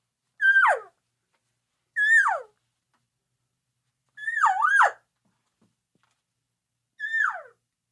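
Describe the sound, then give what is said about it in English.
Four separate mewing elk cow calls, made with a call device while walking in, imitating a couple of elk talking to each other. Each is a nasal tonal squeal that slides downward. The third is longer and wavering, with pauses between calls and no talking. “We're just walking in, we're moving along, and we're just a couple of elk talking to each other.”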